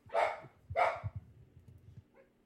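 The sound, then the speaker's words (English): A dog barks twice in quick succession, loud and sharp, followed by a faint low rumble and a small yip near the end; the dogs are indoors. “Sorry, the dogs are inside.”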